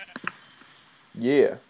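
A few quick clicks, then a short, wavering sheep bleat rises and falls for about half a second, clear, with no talking.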